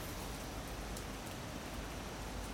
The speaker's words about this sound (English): And if I open my window now, let me see if I can tell you about the... maybe you can hear it. It's raining. Let's see. Can you hear the rain, guys?